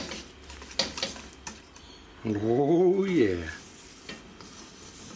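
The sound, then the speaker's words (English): Soft, steady scraping of 25 grams of milk powder and 30 grams of cocoa powder being stirred together in a bowl, with a few light clicks of a utensil, while a voice briefly speaks an exclamation partway through. “Then add 25 grams of milk powder and 30 grams of cocoa powder. Just mix this together.”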